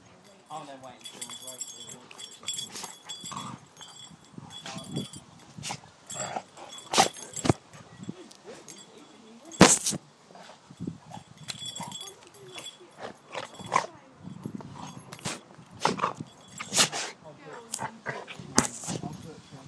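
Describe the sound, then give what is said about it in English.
Two dogs, Vicky and Milan, play-fighting, with the big growling from the dog called Malone: a busy stream of growls, snarls and yelps with sharp barks and scuffles, loud and irregular for about twenty seconds. “Vicky and Milan are fighting, or playing.”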